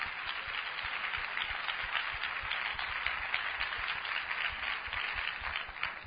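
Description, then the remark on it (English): An audience claps their hands together in a steady, dense wash of applause that holds an even loudness for about six seconds, with no voices heard over it. “Why don't you give the Lord a hand clap for Western civilization, young folks?”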